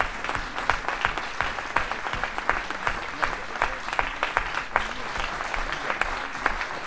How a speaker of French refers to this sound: Merci beaucoup. C'est des applaudissements qui font chaud au cœur.